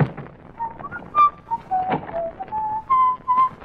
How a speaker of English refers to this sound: you whistle like a canary.